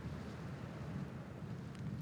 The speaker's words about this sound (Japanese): この嵐ではコートも役に立たなかったようですね。そんなに濡れて。